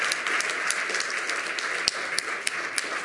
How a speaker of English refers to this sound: Quick round of applause for all of the presenters in the first half of the Lightning talks today.